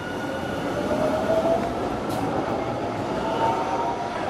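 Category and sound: ambience, train passing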